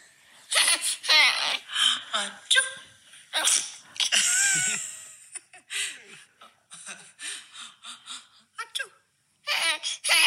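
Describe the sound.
A person fakes a series of playful sneezes into a baby's face, each answered by bursts of the baby's high, giggling laughter in quick back-and-forth rhythm.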